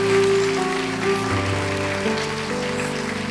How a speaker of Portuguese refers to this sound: Pode aplaudir a eles, queridos.